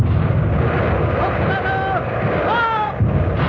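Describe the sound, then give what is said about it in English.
A loud, unbroken roar of heavy naval gunfire fills the whole stretch, with thin whistling tones gliding and bending above the dense rumbling din. “Guns ready. Open fire.”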